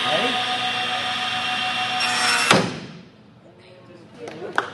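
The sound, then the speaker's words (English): A SawStop table saw whines loudly at a steady pitch during a demonstration for a high school shop class, then a sharp bang cuts it off as a hot dog touches the blade and the blade slams to a stop, leaving near silence with faint rustling afterward. “As soon as the hot dog touches the blade slams to a stop.”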